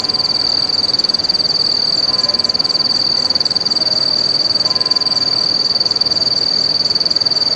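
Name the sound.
cicadas chirping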